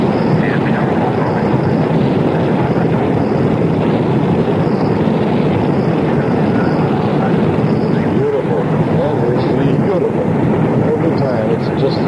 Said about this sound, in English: And not even a hi-fi system can bring you the enormous noise and power of the Saturn V liftoff. 111-meter tall rocket launching the people towards the moon.